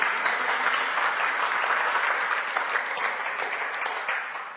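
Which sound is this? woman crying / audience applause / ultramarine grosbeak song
audience applause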